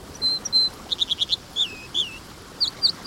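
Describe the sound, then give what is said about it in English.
An American dipper, a plump steel-gray songbird, sings a varied, bubbly song of clear whistles, rapid repeated trills and sliding notes, loud over the steady rushing of a fast-flowing stream. “This American dipper thrives in fast-flowing streams.”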